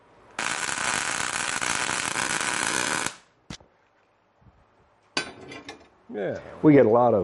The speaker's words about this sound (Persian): حالا یه خالجوشم اینجا بزنم.